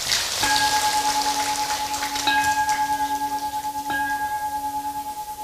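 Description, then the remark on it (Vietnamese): A crowd breaks into loud, sustained applause, a dense steady patter of clapping, while a clear ringing tone sounds over it and is struck again twice. “Và nếu như quý bà con cô bác cam kết việc đó và các cháu tình nguyện đến chùa sinh hoạt vào ngày Chủ nhật, thì hãy cho một tràng vỗ tay thật lớn nào.”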